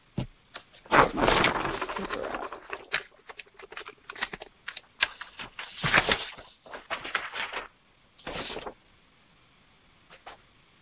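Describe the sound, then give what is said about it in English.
Crisp rustling and crinkling of paper sheets being shuffled and handled while looking for the right sheet, in irregular bursts with brief pauses, a few soft taps near the end, no voices. “Got the right paper now.”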